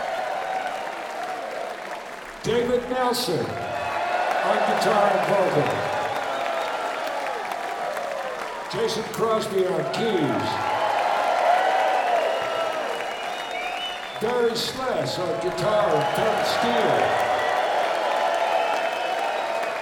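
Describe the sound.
Sustained audience applause and cheering for a band fill the whole stretch, a dense steady roar of clapping with occasional whoops, while a man's amplified voice announces the band members over it in several short bursts.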